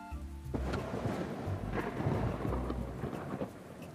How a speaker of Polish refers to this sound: Wsłuchani w opowieść bajki usypianki Mruczka nawet nie spostrzegli, że burza przeszła i jest teraz daleko. Pozostał tylko jednostajny szum deszczu. Krople wody ściekały po szybach w dół i w dół.